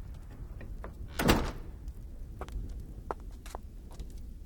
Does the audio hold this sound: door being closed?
yes